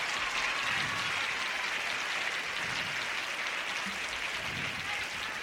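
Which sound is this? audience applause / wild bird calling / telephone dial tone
audience applause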